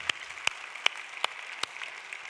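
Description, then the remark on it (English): A crowd claps to Jesus after a prayer, together in a steady, rhythmic beat, with sharp unified claps about every 0.4 seconds over a dense wash of scattered clapping, with no talking. “Come on, let's clap to Jesus one more time.”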